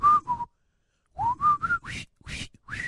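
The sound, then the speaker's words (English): The march tune from the film Bridge on the River Kwai, whistled in clear, bright notes: two quick notes, a short pause, then a run of about six clipped notes that climb in pitch. No talking. “That's from Bridge on the River Kwai. Not from Breakfast Club. Although they do it in Breakfast Club.”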